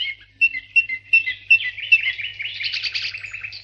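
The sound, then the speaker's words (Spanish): Small birds chirp at a nest of cucarachero birds on a farm in quick, high-pitched bursts, starting with a few separate tweets and building into a busy, continuous twittering chorus. “Es un nido de pajaritos. Tenemos muchos en nuestra granja.”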